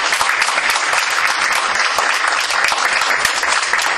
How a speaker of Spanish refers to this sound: Podemos dar un aplauso de agradecimiento.